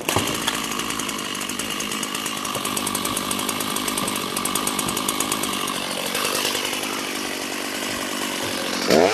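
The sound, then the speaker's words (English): A chainsaw runs loud for several seconds, its high buzzing engine steady as it cuts a square into a plywood roof, with a brief surge near the end. “I choose the chainsaw instead of the axe, and I sort of miss my opportunity to channel my inner Conan the Barbarian.”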